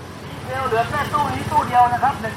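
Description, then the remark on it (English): A steady low rumble of idling engines as about 80 to 90 cars wait in line on a highway to get into a PTT gas station at 5 in the afternoon, with about 30 motorcycles also waiting for gas; people talk over the drone of traffic. “It's 5 o'clock in the afternoon, and I'm standing at the PTT gas station, and I see about 80, maybe 90 cars lined up on the highway waiting to get into this station, and there's about 30 more motorcycles hoping to get gas as well.”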